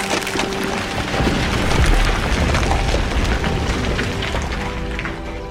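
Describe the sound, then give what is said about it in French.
Noise given off by unstable cliff rock at the Chamoussé rockfall site in the southern Vercors: a steady, loud, deep rumbling roar threaded with crackles and faint humming tones, swelling slightly midway, with no voices. “Et là-bas, on étudie les bruits émis par les roches, par les falaises, roches de l'éboulement.”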